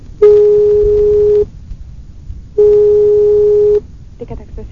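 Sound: telephone tone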